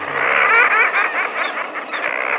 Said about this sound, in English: Does this raucous laughter sound a little deranged as it rings out above the crash of ocean waves? The voices belong to birds, to a nesting colony of common murres, standing on narrow ledges high on the steep face of a sea cliff.